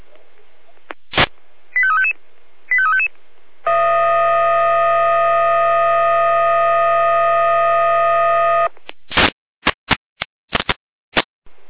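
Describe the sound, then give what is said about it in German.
Brief electronic beeps and two short warbling chirps lead into a loud, steady multi-tone fire brigade alert tone from the Jena dispatch centre, lasting about five seconds, followed by a rapid series of sharp clicks and bursts. The alert is for a tree fallen on a power line on Dorfstraße in Freienorla. “Hier leitet sich Jena mit Einsatzalarm.”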